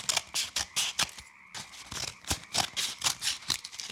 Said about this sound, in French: Et voilà, j'ai les parties principales. C'est terminé avec les ciseaux.